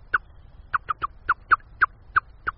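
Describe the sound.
A 49-year-old nature enthusiast imitates a male blackbird's alarm call at a cat approaching its nest in a garden: a rapid, uneven series of about nine sharp, clucking 'tchuck' notes, fairly loud, with no other talking.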